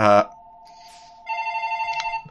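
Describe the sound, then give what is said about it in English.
A computer rings with an incoming call: a steady electronic tone that swells into a rapid warbling ring, heard clearly after a brief voice at the start. “Oh, it's the computer making that noise. I have too many devices that will ring my phone.”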